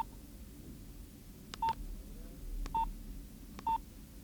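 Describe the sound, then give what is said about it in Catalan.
Three short, clear electronic beeps from a small mobile phone's keypad, spaced about a second apart, over a low background hum with no one talking. “Això tan petit és un telèfon? Deixi-me'l un moment.”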